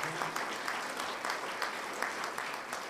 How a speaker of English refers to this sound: Can I have a round of applause for our performers so far? They've done a great job.